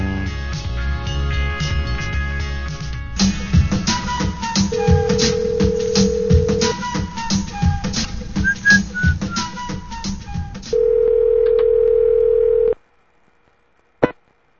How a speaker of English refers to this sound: Oh, call Tim Searcy's cell phone. Yes, that's right. We're supposed to call Tim Searcy's cell phone. I've got that right over here. Mr. Searcy's cell phone.